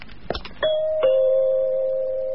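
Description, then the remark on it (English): A few soft scuffs of footsteps coming up the path, then a front doorbell chimes a clear two-note ding-dong, the second tone ringing on and slowly fading. It sounds fairly loud, with no voices. “Then footsteps came up the path and the front doorbell rang.”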